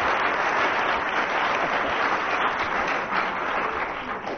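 Steady, sustained audience applause fills the whole clip, a dense wash of many hands clapping at an even, loud level with no voices standing out, following Barry Cryer's singing of Silent Night with Colin Sell at the piano.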